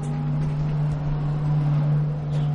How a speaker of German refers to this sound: Der Elektromotor startet, der Bus setzt sich in Bewegung. Aus dem Auspuff kommt keine stinkende Wolke aus Ruß und Kohlendioxid, sondern eine matte, weißliche Schwade. Es ist reiner Wasserdampf.